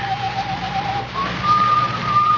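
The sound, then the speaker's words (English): A man whistles a slow tune somewhere in a building: a thin, steady tone at first, then sustained, slightly higher notes, over a low background hum with no talking. “The slasher whistles that tune.”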